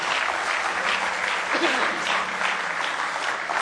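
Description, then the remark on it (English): An audience claps steadily in sustained applause as a hand clap of praise to the Lord, a dense, even wash of many hands for several seconds, with a faint voice briefly audible underneath. “Give the Lord one more good hand clap of praise tonight if you love Him.”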